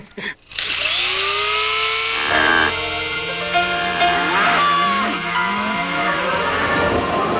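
A small battery-operated coffee bean grinder grinds beans, whirring loudly and steadily for several seconds, its high motor whine rising and shifting in pitch as it runs, without any voices.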